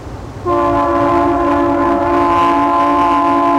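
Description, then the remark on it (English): A loud, steady train horn blares, a sustained multi-tone chord that starts abruptly and holds without a break over the low rumble of a passing train. “Well, you still have the railroad.”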